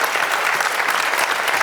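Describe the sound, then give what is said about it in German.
Steady applause from an audience for the football club SC Freiburg, a dense wash of many hands clapping at an even, fairly loud level throughout, with no voices rising above it. “Da dürft ihr ruhig mal klatschen.”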